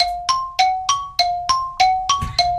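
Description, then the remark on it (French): A gong-like metallic chime on a quiz game signals that time is up before an answer is given, ringing in a rapid, even series of about eight bright strikes, each decaying briefly before the next, loud with no voices. “Il y a le gong qui a sonné.”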